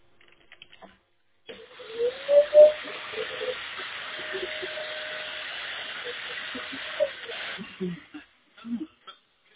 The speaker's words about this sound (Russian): Зато он так хорошо пылесосит.